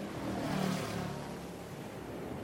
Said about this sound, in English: This is a boat.